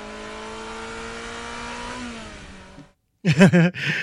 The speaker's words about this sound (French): Pour prévenir les piétons du passage d'une voiture électrique, il fallait rajouter des samples et pas que le bip bip bip de marche arrière.